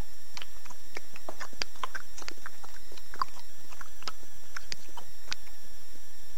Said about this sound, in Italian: Entra e inizia a mangiare ravioli al vapore.